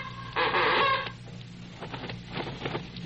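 A large bird, called the great Bob and Ray bird, lets out a loud, harsh squawk, followed by several bursts of flapping and rustling as it beats its wings in a cage, as if trying to get out.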